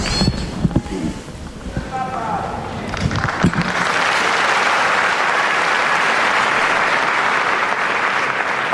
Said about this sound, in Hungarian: Most sem maradt el a tapsvihar, amellyel a jelenlevő zarándokok hálájukat fejezik ki a Szentatyának.